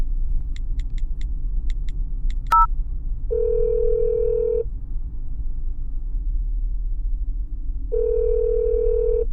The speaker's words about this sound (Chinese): 哎，老公为什么也不接我的电话呀？奇了怪了，他平时看到我的电话3秒钟就会接起的。